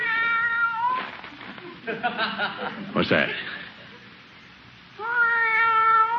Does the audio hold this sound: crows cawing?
no